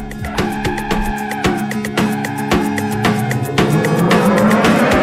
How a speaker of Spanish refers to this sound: vamos a partir con música. Esta es la canción que teníamos programada para ayer